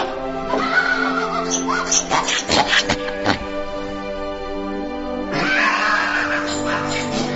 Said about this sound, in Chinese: 他一到市场，就听到一家杀猪店里传来哀嚎的猪叫声。 哦，可能是这家杀猪店， 进去看看。